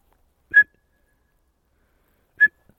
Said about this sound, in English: Sorry if I'm shouting or whistling really loudly. She hasn't seen a squirrel.